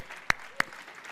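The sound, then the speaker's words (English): Two sharp, evenly spaced hand claps ring out over a faint background hiss, the start of an audience's applause for the men: fathers, grandfathers and great-grandfathers. “So if the rest of the congregation could clap for these men, it would be great.”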